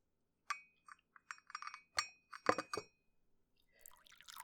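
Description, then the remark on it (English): Several bright ceramic clinks and rattles, like a cup and teapot being handled, followed by a soft, hissing stream of red hibiscus tea poured into a cup. No one speaks. “But first, I was just gonna have some tea. Can I pour you a cup?”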